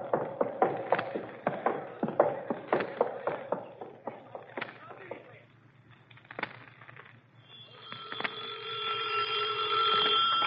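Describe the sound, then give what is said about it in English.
After several seconds of shuffling footsteps and clatter, a telephone starts ringing with a steady, trilling electronic bell that keeps going, fairly loud, until the end; it is Captain Hansen calling in. “Adler, Captain Hansen's calling in on the other phone.”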